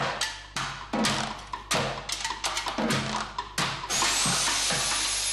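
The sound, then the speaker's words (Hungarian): A hammer drill is played like an instrument by a percussionist in a student orchestra rehearsing for a concert in a music school's renovated concert hall in Hungary, in loud, stuttering bursts of rattling noise, ending in a longer sustained run with a rising whine. “ütvefúrón viszont még sosem zenél. Egy fúróval fogok játszani, meg lesznek más különleges hangszerek is, flex, meg lombszívó, meg ilyen dolgok, úgyhogy ilyen különleges hangszereken fogunk most játszani.”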